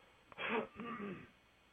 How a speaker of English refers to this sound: I'm going to get a drink here and clear my throat. Excuse me.